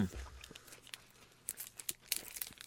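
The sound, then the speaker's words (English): A protein bar wrapper crinkles and tears in quick, irregular bursts, fairly quiet overall, with a few sharper crackles toward the end and no voices. “Are people going to hear me chewing?”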